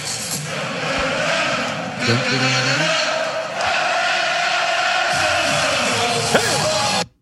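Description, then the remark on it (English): A large crowd of Dutch football fans in Kansas City, there for a match that evening, cheers and chants in a steady, loud roar, with sung chant phrases swelling up at moments before the sound cuts off abruptly. “Of course, there was a lot of Dutch there, and because they're here for the match this evening.”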